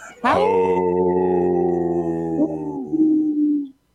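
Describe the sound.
A person imitates an older wolf's howl in a low voice: one loud, sustained call of about three and a half seconds that swoops up sharply, then slowly sags lower before cutting off.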